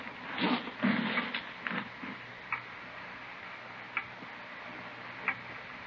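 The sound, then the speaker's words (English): A clock ticks, its sharp, evenly spaced clicks standing out after a brief cluster of louder knocks and rustling at the start. “Clock, ain't it?”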